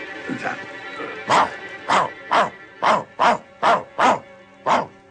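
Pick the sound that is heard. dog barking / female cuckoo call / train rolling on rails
dog barking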